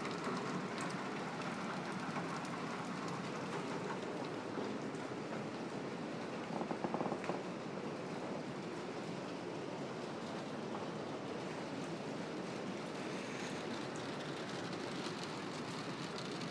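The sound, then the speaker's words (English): Steady rain that has been falling all evening, a dense, even hiss of drops hitting surfaces, holding the same loudness throughout with no voices. “Ooh, yeah, listen to the rain.”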